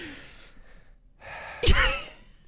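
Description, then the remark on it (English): A voice imitates heavy breathing: a breathy exhale, a short pause, then a rising inhale ending in a sharp, loud gasp-like burst. Fairly loud, with no talking. “You've got to do more, let me heavy start. Breathing.”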